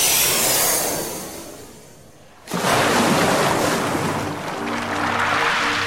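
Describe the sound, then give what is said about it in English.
Surf of the Lavender Ocean rolls onto a beautiful stretch of coast: a wash of water fades back, then a loud wave breaks and a steady roar of churning water follows, with no voices. “The TARDIS had materialized on a beautiful stretch of coast overlooking the Lavender Ocean.”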